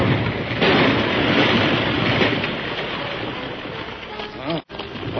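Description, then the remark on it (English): A powder shed holding about 200 pounds of blasting powder explodes, carrying on as a dense, roaring rush of rumbling noise for about five seconds. It stays fairly steady, then drops out abruptly for a split second and resumes. “There must have been 200 pounds of blasting powder stored in the bottom of that shed.”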